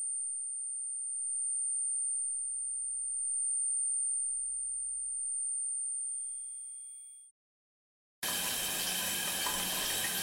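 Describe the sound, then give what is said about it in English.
A thin, steady high-pitched whistle rings alone for about seven seconds like tinnitus, cuts out briefly, then loud rushing water abruptly takes over. “But it's a bit like the static you would hear if you left an old TV on standby, a kind of high-pitched whistle.”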